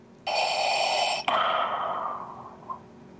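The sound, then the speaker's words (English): A person imitates heavy mechanical respirator breathing of a life support system, loud: one long, rasping hiss of an inhale that cuts straight into a slower exhale, then fades out, with no talking. “Sounds like you've got a bit of a breathing problem. Oh, I just had this new life support system installed.”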